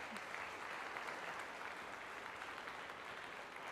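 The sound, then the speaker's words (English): Steady, dense applause from a sizable audience for those with more than 40 years in PPC, many hands clapping continuously at an even loudness for several seconds, with no speech over it. “And I'd like we give them an applause.”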